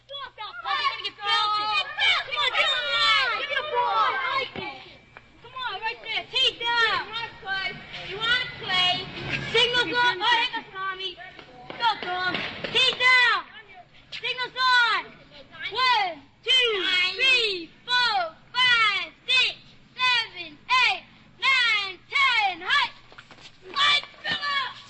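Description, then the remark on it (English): Children shout and call out over one another while playing football in the street after school, lively overlapping voices rising in excited bursts, with brief pauses between yells toward the end. “And after school, there are football games in the street.”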